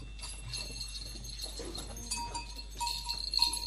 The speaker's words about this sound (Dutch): Deze komt zelfs helemaal uit Zwitserland. Die hebben de koeien daarom. Ja, te weten de boer precies waar ze zijn.